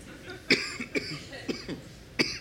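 A person coughs repeatedly, four or five sharp bursts in quick succession with short gaps between them, no talking in between, on stage during a live recording in front of a studio audience in Austin.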